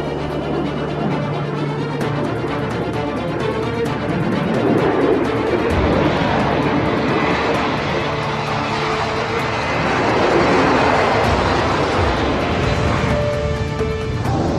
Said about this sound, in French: 15 heures, 40 minutes et 11 secondes. Le public retient son souffle lorsque le Concorde 001 lâche toute sa puissance.